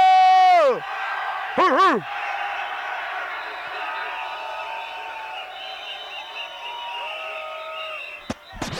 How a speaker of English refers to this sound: Yeah. One cheer. Where's the noise, Sorrento?